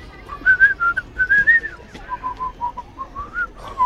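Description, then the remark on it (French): A person whistles a lively, wavering tune of short bright notes in quick succession, fairly loud, with no talking over it. “Pourquoi tu siffles tout le temps?”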